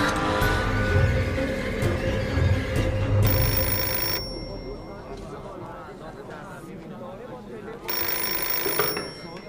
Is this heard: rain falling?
no